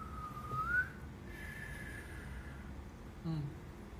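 Someone tries to whistle, producing a thin, wavering tone that slides upward, then a fainter, steadier breathy note, followed by a brief low vocal sound near the end.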